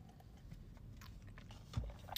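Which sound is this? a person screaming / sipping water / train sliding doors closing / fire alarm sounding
sipping water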